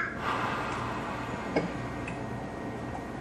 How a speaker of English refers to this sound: I was on the floor and I did not get to see what your mouth looked like when you were doing the whooshing exhale. Oh, okay, the whooshing exhale. Here it is.